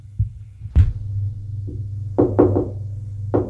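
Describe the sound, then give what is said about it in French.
Several knocks on a door ring out over a steady low hum: one sharp rap, then a quick cluster of three, then a final knock. No one speaks. “On a frappé à la porte.”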